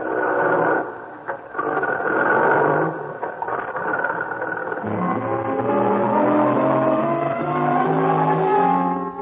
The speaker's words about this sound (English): You swing the truck around the loading platform where you agreed to meet the Baron.